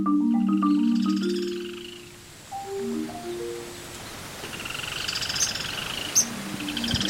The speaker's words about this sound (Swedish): Här är så ljudet av skogen bakom mig. Och så tidvattnet som kommer in här. Som stora vågor.